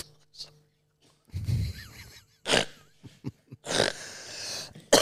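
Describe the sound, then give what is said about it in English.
A harsh coughing fit, blamed on wearing fedoras: several rough, explosive coughs in an uneven sequence, with throaty gasps and sputters between them, and no talking. “They give you a bit of a cough.”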